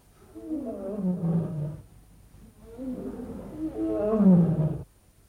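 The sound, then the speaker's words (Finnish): Lions roar in two long, rumbling bouts, the second swelling louder before cutting off, with no voices present. “Kuulitko? Leijonat tuolla päin.”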